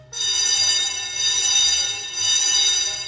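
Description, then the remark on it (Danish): A loud alarm from a large bell on the outside of a fire station rings continuously with a dense metallic clang, its brassy tone steady for the whole stretch, insistent with a slight pulsing swell. “Jeg tror, I bliver nødt til at lige at komme og hjælpe mig lidt her, siger faren, men bliver afbrudt af en høj alarm, som pludselig lyder fra en stor klokke ude på siden af brandstationen.”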